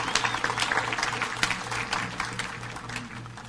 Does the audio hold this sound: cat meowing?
no